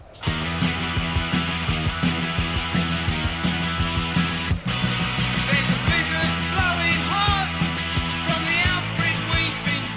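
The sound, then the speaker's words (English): A loud, fast early 80s-style punk rock song with driving drums and distorted guitars, topped by raw, yelled vocals that stay rough and energetic throughout. “And this is like just that yelling of the early 80s punk bands.”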